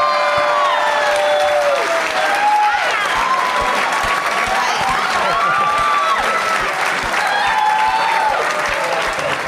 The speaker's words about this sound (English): Biggest applause Gremlins 2 has ever gotten.